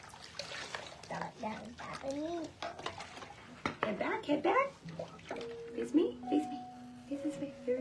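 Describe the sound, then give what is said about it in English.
Bath water sloshes and splashes in a bathtub in short, uneven bursts as someone sits in the tub, while voices talk over much of it. “Later, … sits in a bathtub.”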